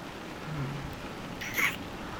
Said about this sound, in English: That power. The sound. The rain.